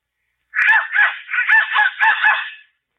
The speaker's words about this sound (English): Hey, I never saw this whistle before. Must belong to the kids. I wonder what it sounds like.